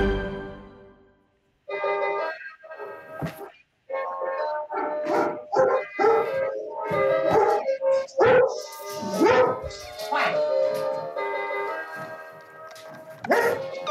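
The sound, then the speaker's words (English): A dog named Brisby barks and yips repeatedly in quick, uneven bursts for several seconds, the high, sharp barks fairly loud and with no talking over them. “Brisby, dog for justice.”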